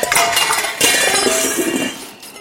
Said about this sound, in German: Erleichtert ging Lieselotte weiter und stolperte direkt in eine Schubkarre voller leerer Gießkannen.